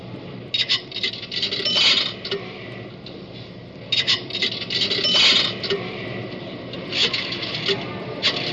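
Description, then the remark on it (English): Coins drop into a pay phone whose sign asks for a dime or two nickels, in a few bursts, with bright metallic jingles and clinks over a steady low hum and mechanical rattling. “Oh, did you deposit a dime? That's what that sign says. Oh, yes, says deposit a dime or two nickels.”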